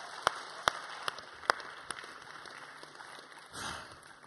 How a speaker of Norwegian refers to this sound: Bra. Gjerne en applaus til.